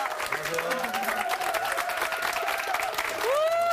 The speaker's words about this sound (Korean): 박수로 환영해 주세요. 목사님 어서 오세요.